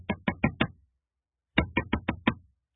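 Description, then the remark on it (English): Firm knocks on the wooden door of a house, loud: a quick group of four raps, a short pause, then a second group of five, with no voices. “When Peter got to that house, he knocked on the door.”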